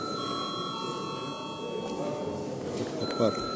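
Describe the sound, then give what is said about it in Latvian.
A parliamentary voting bell, called for before a vote of deputies, rings as a steady, continuous high-pitched electric tone for about three seconds, then stops, over a low murmur of voices. “Deputāti lūdzu balsojumu, lūdzu zvanu.”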